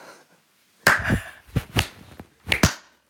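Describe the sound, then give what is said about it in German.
A slow clap: about half a dozen sharp hand claps at an uneven, unhurried pace, some falling in loose pairs, with no voices over them. “So, das ist, ich würde jetzt gerne den Slow Clap starten.”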